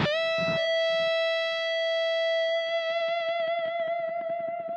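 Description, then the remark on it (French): A single distorted electric guitar note rings out and sustains with feedback, steady at first, then swelling into a wavering vibrato while soft drums and bass pulse underneath. “il s'agit de cette fameuse note tenue sur laquelle … joue avec le Larsen”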